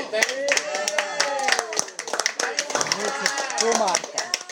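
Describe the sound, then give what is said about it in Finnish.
A small elephant, trained to play the harmonica, blows a harmonica in wheezy, reedy bursts of bending, overlapping notes, played continuously and fairly loud, with sharp tapping or clapping sounds scattered throughout. “Ja tässä kuullaan, miten elefantti soittaa, pieni elefantti on opetettu soittamaan huuliharppua.”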